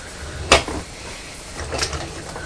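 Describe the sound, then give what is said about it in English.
A steam iron gives a sudden sharp hiss, then a second, softer and longer burst of steam a moment later, both over a steady low background noise; no voices. “Can you hear this funny noise? It's a steam iron.”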